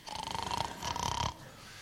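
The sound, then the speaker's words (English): Two loud, rattling snores in quick succession, each a fluttering buzz with a steady nasal tone, followed by a brief quiet hum; no one speaks. “You walk in through the doors and you just hear snoring.”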